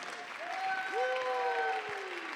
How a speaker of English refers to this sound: Let's clap our hands. Let's lift up our voice.